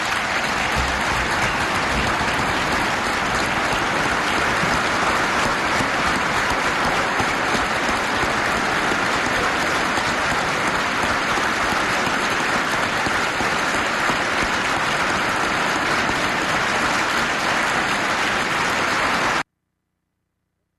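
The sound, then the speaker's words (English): Sustained applause from a large audience for Mother Teresa's speech against abortion, a steady dense wash of clapping that holds at a loud, even level for about nineteen seconds before cutting off abruptly. “If you look at that, everybody's applauding what Mother Teresa's saying, except two people.”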